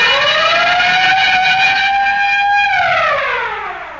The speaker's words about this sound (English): could we have that siren and bell again?